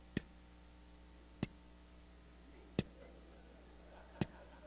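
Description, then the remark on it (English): Four sharp, isolated clock ticks land at a slow, even pace, roughly a second and a half apart, each crisp against a faint, steady background hum. “I had a clock in my room. And I would sit there and I would watch that clock, and here's what it would do.”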